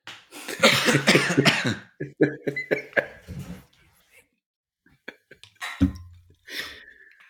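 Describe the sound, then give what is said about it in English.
A burst of harsh, rasping coughs, several in quick succession, followed after a short pause by a couple more throaty coughs and a breathy exhale. “I got a cough.”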